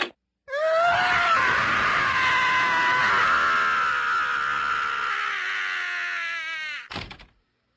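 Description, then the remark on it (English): A man lets out one long, loud, strained scream, holding for about six seconds before breaking off abruptly. “I knew if I heard one more commercial, I'd scream.”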